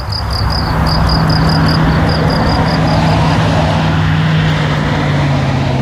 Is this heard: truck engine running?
yes